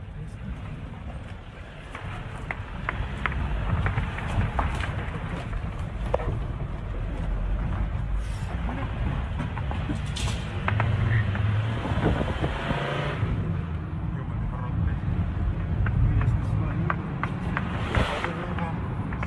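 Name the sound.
car driving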